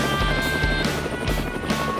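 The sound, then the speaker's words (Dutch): A helicopter whirs, its rotor thumping in a steady low chop beneath a constant high engine whine, loud and continuous with no voices. “Ja hoor, zet daar maar de heli neer.”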